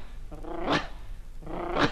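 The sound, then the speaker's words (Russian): A person imitates a dog, giving two short growling, snarling bursts about a second apart, fairly loud, with no other talking around them. “Безобразие! Кто сюда впустил собаку?”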